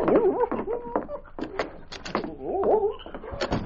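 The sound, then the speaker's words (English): A dog named King whimpers in rising, whining tones as it takes the scent from a woman's light coat to track her, broken by a few short sharp barks, then whines again before a final bark, with no voices. “On a wooden hat rack in the corner, he found a light coat belonging to Flora. He held it out to his dog, King.”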